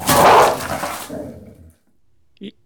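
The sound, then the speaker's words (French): Five dogs snarl and bark at each other over four steaks in a loud burst, fading out over about a second, followed by silence and one short faint yelp. “Je voulais leur caresser la joue pour leur dire que demain, il y aurait autant de steaks que de chiens.”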